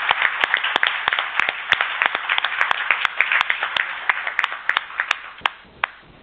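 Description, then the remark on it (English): A round of applause from a group at an early-morning meeting, for the rapporteurs and working party members: dense, steady clapping with sharp individual claps popping out, holding for about six seconds before thinning slightly at the end. No one speaks. “So I would like to pause a moment, and you know, even though it's very early in the morning, can we just give a round of applause to the hardworking rapporteurs and the individuals on the working party?”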